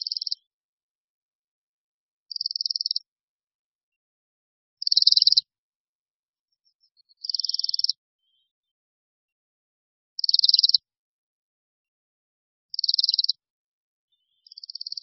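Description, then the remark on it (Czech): A Bohemian waxwing's thin, high, buzzy trills, repeated about seven times at a steady pace with short pauses between, each burst clear against an otherwise silent background. “Jak již druhové jméno říká, Brkoslav je pták skutečně severní.”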